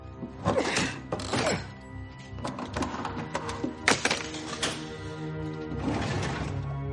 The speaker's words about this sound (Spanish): Repara en una puerta con candado. Lo rompe con la palanca.